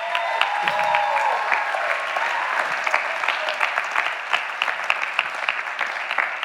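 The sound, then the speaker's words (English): Sustained applause from an audience for the team, a dense patter of many hands clapping steadily at a fairly even loudness throughout, with no one speaking over it. “So this is our team. Why don't you give it up for our team?”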